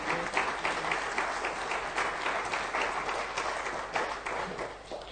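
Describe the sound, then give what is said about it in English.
A large audience applauds steadily, dense clapping at a fairly loud level for several seconds without pause, honouring people who worked in the shipyards and their families. “Let's give them a big applause and let's honour them.”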